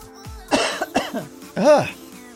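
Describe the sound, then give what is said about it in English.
Several loud coughs in quick succession, harsh and throaty, with a short pause before a final strong cough; no speech around them. “I'm coughing, as you can hear.”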